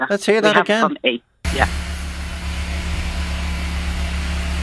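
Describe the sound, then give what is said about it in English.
After a brief stretch of someone talking, a steady, droning engine rumble takes over, the deep idling hum of cement mixer trucks delivering cement, recorded from a window, constant and unbroken. “You know the lorries that would deliver the cement. Oh, the cement mixers, the cement trucks.”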